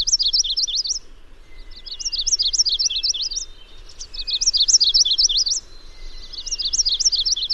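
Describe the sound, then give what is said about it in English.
A songbird sings its territorial fight song, used for aggression or protecting territory: repeated bursts of rapid, high-pitched chirping phrases, each lasting about a second with brief pauses between, loud over a faint low background hum, with no talking. “Let's start with hearing some of that so-called fight song.”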